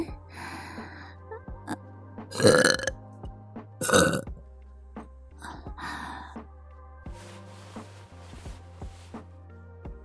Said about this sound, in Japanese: ママのゲップ、甘くて臭くていい匂い？臭いとか言わないの。